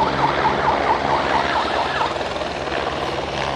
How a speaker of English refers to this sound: He's using that siren either to herd the wildebeest a bit, but he's also using it to indicate when people actually have to close the curtains.